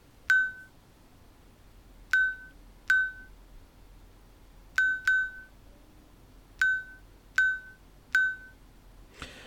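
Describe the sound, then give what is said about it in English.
A watch buzzes the time 12:03 as a sequence of short, bright electronic beeps, a single beep counting ten and quick pairs counting ones, spaced unevenly over about nine seconds against a quiet background. “So the first single beep you heard was a 10, and then it did two beeps, 1-2 for 12.”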